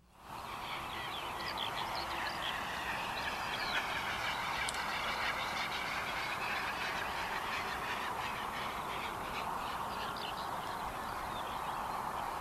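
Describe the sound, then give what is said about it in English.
A great bustard call: a dense, continuous chorus of nasal honking calls, many birds overlapping at once, steady and fairly loud throughout with no pauses or talking. “And the bird is Great Bustard.”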